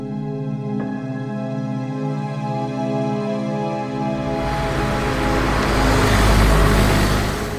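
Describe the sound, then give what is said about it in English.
A car engine drones with a steady harmonic hum, then swells into a rough, roaring strain as it labors harder going downhill on the road, loud, with no voices. “That's because we're in a car that has trouble going downhill.”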